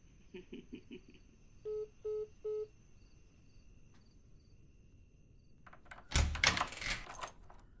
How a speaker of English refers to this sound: Go ahead, darling. Finish unlocking that front door of yours.